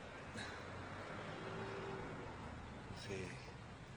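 vehicle, bus driving and stopping

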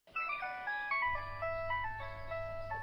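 signal or alarm, phone ringing

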